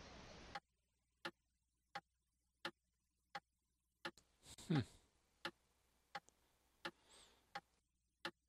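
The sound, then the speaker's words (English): A clock ticks steadily, sharp even clicks coming roughly every two-thirds of a second, with a brief vocal sound breaking in partway through. “Did that come from the clock, or?”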